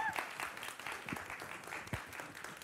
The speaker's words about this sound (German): Oh, sehr gut. Applaus.